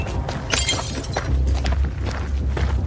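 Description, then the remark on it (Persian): A glass of tea is dropped and hits the floor, shattering in one bright, sharp crash, followed by a few scattered tinkles of falling shards over a low background rumble. No one speaks. “حاتم لیوان رو میندازه.”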